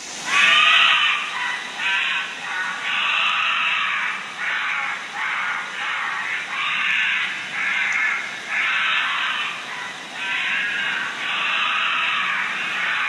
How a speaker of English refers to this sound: I actually have no idea at all. I'm going to guess it's some type of bird squawking. It's actually a badger. Is it? A screaming badger.